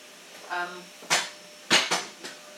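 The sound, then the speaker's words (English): A cat named Pinky tumbles out of a cupboard: a short tonal cry, then a string of four sharp clattering thumps and knocks, the loudest in the middle, over a quiet background. “Oh, that was Pinky. She fell out the cupboard, not Pinky cup.”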